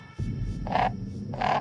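crow cawing

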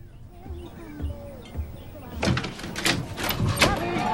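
bedroom door opening

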